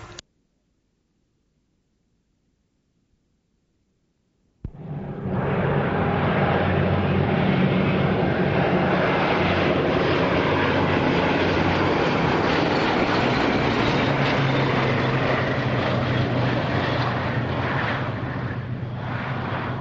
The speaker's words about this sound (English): That was a flypast of the Blenheim, the Gladiator and the Lysander. They're all together. I think they all have the same engine, so you can't tell t'other from which anyway.